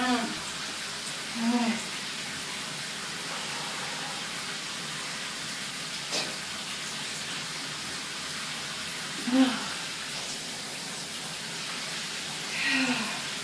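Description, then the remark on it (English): Cold shower water runs steadily, a constant hiss of spray splashing onto a hard floor and onto feet, broken only by a few brief vocal murmurs. “Even the bit that splashes from the floor onto my feet is so fucking cold.”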